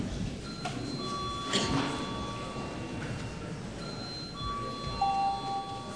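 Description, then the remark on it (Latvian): A steady electronic bell rings continuously for several seconds during a parliament session, a bright sustained tone with a slight shift in pitch partway through, with a faint murmur of voices underneath. “Paldies, lūdzu zvanu.”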